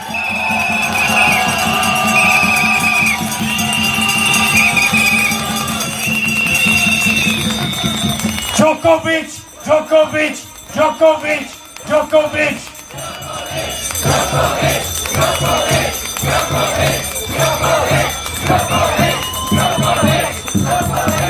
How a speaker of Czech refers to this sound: Veliký potlesk pro Novaka Djokoviče!